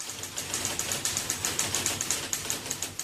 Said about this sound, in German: Mit der gedrückten Umschalttaste geht man auf Großbuchstaben. Da die Typenhebel aus Metall waren, war das Schreiben auf diesen Maschinen sehr laut.